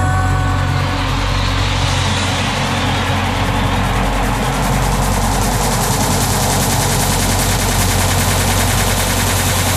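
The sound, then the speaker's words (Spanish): A loud barrage of fireworks and rockets bursting at the end of a night of live music, in rapid, nearly continuous crackling pops over a deep rumble, sustained for the whole stretch with no voices. “Que la noche acabará con cohetes y fuegos artificiales”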